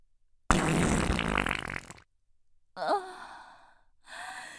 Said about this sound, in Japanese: ケツ穴開いておなら出る。汚いの、出る。